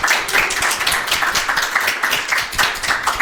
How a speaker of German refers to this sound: Jetzt können wir so Applaus einspielen, wie so ein amerikanischer.